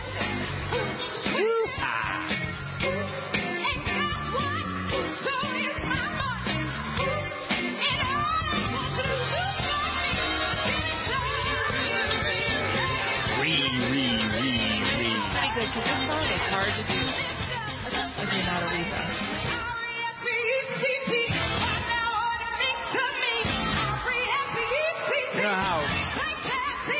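A live soul song plays loudly and steadily, with a strong lead vocal belting over a full band, and faint crowd whoops and cheers mixed into the performance.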